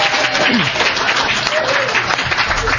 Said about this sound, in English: Well, you know, I want to let's give Brian a really good round of applause.